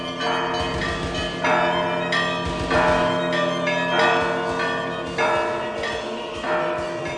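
Church bells peal in a steady, overlapping sequence, each strike blooming into a rich, lingering ring. The sound is full, with no voices.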